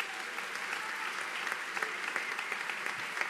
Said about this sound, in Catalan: I un gran aplaudiment per qui ha fet tots aquests arranjaments, els senyors, a sobre ha sigut un empastrat, Pere Rodenàs.